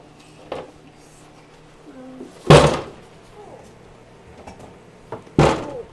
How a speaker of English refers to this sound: Stop slamming my door.